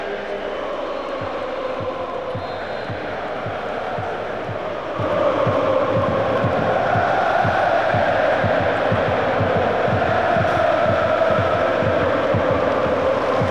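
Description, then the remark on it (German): A large crowd sings Happy Birthday for number 26, Delrin, who turns 30 today, to a steady rhythm of hand claps, the massed voices swelling and growing louder partway through, with a dense roar throughout. “Ich denke, wir können ihm ein Ständchen singen. Happy Birthday.”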